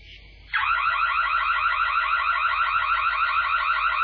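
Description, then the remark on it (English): A burglar alarm in a house suddenly starts blaring after a brief quieter tone, then holds a loud, continuous warbling electronic wail through the house without pause. “Just as Adam steps out of his bedroom, the burglar alarm blares through the house.”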